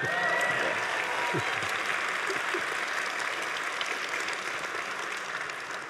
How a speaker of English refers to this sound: which leads me to the person on my left, who worked at Valve for quite a substantial amount of years, and he worked on games such as Half-Life 2, which should warrant a huge applause, I think.